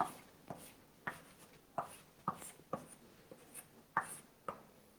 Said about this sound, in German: So, wir malen einen Baum.